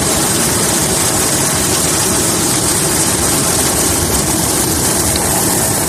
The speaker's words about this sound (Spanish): Es un helicóptero intentando trasladar y salvar la vida a los poco más de 100 personas que han podido ser rescatadas.